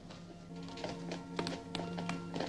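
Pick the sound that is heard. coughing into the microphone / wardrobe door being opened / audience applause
wardrobe door being opened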